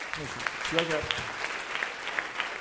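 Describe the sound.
A crowd applauds steadily, a dense patter of many hands clapping throughout, with a brief voice or cheer rising over it near the start.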